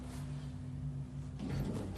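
A steady low mechanical hum gives way to a short rumbling slide as elevator doors glide open on floor 3, a soft continuous whoosh with no voices.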